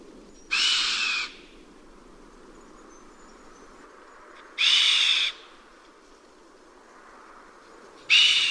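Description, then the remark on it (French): A chamois gives three loud, breathy alarm whistles blown through the nostrils, each a harsh hissing blast under a second long, spaced several seconds apart against a quiet outdoor background. “Donc voilà le chamois, c'est lui qui fait ce cri si puissant.”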